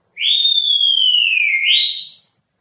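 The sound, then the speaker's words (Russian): A single sustained whistle lasting about two seconds, starting with a quick upward slide, gliding slowly downward, then rising again briefly before fading. Clear and fairly loud, heard alone with no talking. “Посмотри, кто там свистит.”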